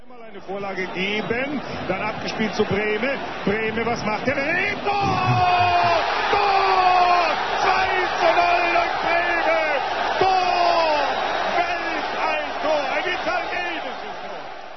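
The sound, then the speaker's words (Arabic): A large football crowd roars and shouts, swelling louder partway through as a goal is scored, with the crowd shouting 'Tor' and an excited voice calling out over the dense, continuous cheering. “لا شك في أنه قد خطر ببالكم بما يتعلق الأمر هنا، إنه لعبة كرة القدم، وتعرفون حيث يجري اللعب أن الجمهور قد صاح لتسجيل الهدف تور، وأن الهرج والمرج والابتهاج كان رد فعل على تسجيل الإصابة.”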